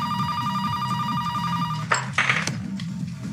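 A telephone rings with a steady, bright electronic tone for about two seconds, then stops as a few short clattering bumps follow, like the handset being picked up. No one speaks.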